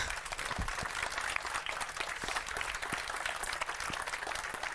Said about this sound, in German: und an dieser Stelle vielleicht nochmal bitte kleinen Applaus für unsere coolen Developer, die nämlich alle dort in die Ecke stehen.